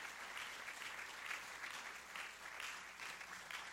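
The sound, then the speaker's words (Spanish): A worship audience claps together in steady, dense applause for the Lord, a continuous wash of hand claps that swells slightly in waves, with no voices standing out. “Denle un aplauso al Señor, aleluya.”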